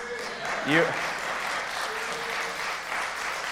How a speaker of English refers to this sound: I'm watching who's clapping and who's not clapping. So I saw those of you who didn't clap.